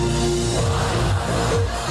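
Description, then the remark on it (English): A loud drum and bass remix of the BBC News theme, played in a set at Glastonbury, with sustained low synth tones and a dense, driving electronic texture playing continuously without any voices. “So we had a little set at Glastonbury and he played this drum and bass remix of the BBC News theme.”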